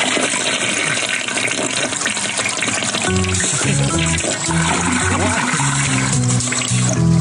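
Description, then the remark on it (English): A loud, long toilet flush roars with steady rushing water, and after a few seconds muffled voices come in over the continuing gush and gurgle. “Why did we get the loudest toilet flush? And the longest.”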